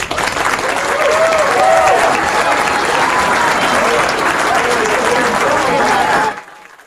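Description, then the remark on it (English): A large crowd at a pep rally at the Howard Johnson in Rapid City applauds the head coach's address steadily for about six seconds, dense and loud with scattered whistles and cheers in the mix, before cutting off abruptly. “Head coach Riker Kreitzfeld there addressing the crowd here at the pep rally.”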